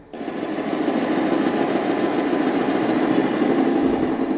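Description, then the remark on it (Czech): A four-stroke single-cylinder OHV motorcycle engine of about 18 horsepower, in a prewar machine, fires up abruptly and settles into a loud, steady, rapidly thumping run, with no voices. “To je čtyřdobý jednoválec, rozvod OHV, nějakých 18 koní.”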